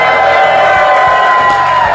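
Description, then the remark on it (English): A large live audience at Summit 2017 cheers and whoops loudly and continuously, a dense wash of voices with high-pitched shouts cutting through, sustained for the full two seconds. “And we have an absolutely amazing crowd, as you heard them here.”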